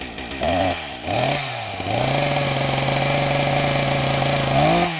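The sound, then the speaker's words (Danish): A chainsaw engine revs in a few quick bursts, then holds a steady, loud, buzzing whine, rising again briefly at the end, with no voices. “forestil dig lige en valgkamp, hvor en dansk politiker tager en motorsav med ud i sin valgkamp for at illustrere, hvor dybt vedkommende vil skære i den offentlige sektor.”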